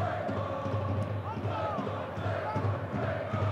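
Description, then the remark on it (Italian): Parma's yellow-and-blue supporters chant encouragement across the stadium during a football match against Udinese, a steady, dense wash of many voices with rising sung phrases, holding a constant loud level throughout without pauses. “Solé, sentite l'incitamento dei tifosi gialloblu.”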